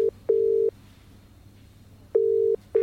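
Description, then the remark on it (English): A telephone ringback tone from an outgoing call to Rod: paired steady mid-pitched beeps with a longer pause between pairs, clear, like hearing it through the handset. No one speaks. “I'm calling Rod.”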